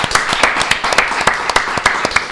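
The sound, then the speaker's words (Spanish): A small group applauds steadily, a dense patter of hand claps with a few sharper, louder claps standing out, close and fairly loud throughout with no voices. “¡Aplauso para”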